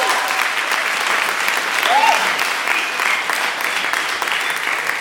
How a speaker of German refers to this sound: Ich frage in der Zwischenzeit nach dem Applaus für den Industriearchitekten.